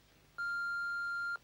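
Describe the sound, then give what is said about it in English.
A single steady electronic answering-machine beep, a clear pure tone lasting about one second, loud, with no voices around it. “Do your thing when you hear the beep.”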